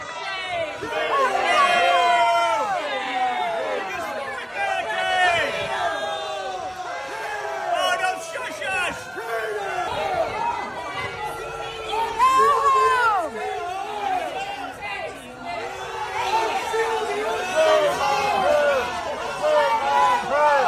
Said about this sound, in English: Stefanik stepped up to address the crowd twice. Both times, the protesters booed her.